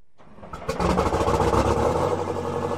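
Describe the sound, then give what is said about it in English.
The engine of an Achzarit, an Israeli army tank-like armored vehicle used along the Israel–Gaza border fence, is started by a combat officer: it cranks and roars to life, then settles into a loud, deep, rumbling idle with a steady low-pitched throb and clattering mechanical noise. “starts up a tank-like vehicle called an achzarit, the word means cruel in Hebrew.”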